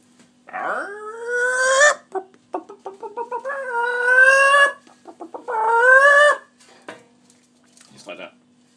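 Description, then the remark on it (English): A chicken clucks, letting out three long, drawn-out squawks with quick bursts of short clucks in between, loud and with no other sounds around it. “Okay, next step. Chicken.”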